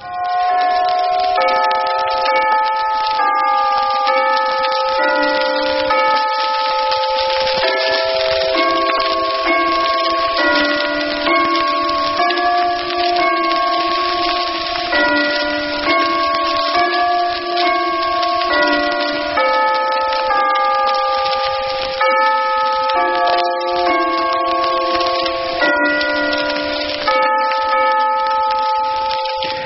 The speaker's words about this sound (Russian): А теперь это запись 18 года специально к Рождеству колоколов Вестминстерского аббатства.